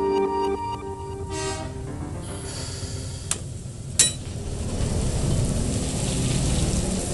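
Coal pouring out of a rail car at the Michigan State University power plant in East Lansing, Michigan: a steady, broad rushing roar with a low mechanical hum early on, a couple of sharp knocks midway, and the roar swelling toward the end.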